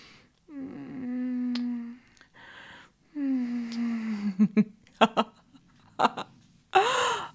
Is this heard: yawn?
yes